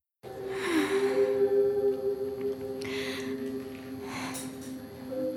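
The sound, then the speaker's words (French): Long, sustained whale calls drone in steady tonal layers, with breathy whooshing swells rising and fading over them. No voices, just a continuous, moderately loud underwater-sounding hum throughout. “Chut, si vous parlez tout le temps, on pourra pas savoir si la baleine va s'accoupler.”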